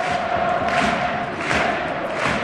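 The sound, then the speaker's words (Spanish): A large football stadium crowd in Pamplona roars and claps continuously, celebrating Osasuna, a dense wash of cheering and applause with surging swells, heard from within the stands at steady, loud volume. “Sigue la fiesta en Pamplona, aplaudo de sí. Público y grada.”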